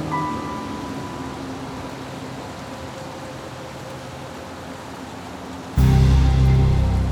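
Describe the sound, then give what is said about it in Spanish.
Steady rain hisses across the whole clip, a dense continuous patter with no voices, then surges abruptly louder and heavier near the end with a deeper rumbling undertone. “Por la falta de luz y la lluvia, la joven fue incapaz de ver cómo eran las personas que iban dentro.”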